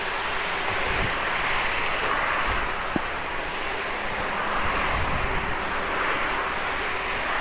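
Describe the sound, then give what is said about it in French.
Rain falls in a steady, unbroken hiss that holds an even loudness throughout, with a low rumble underneath and no voices. “Ça fait chier cette pluie, ça n'en finit pas.”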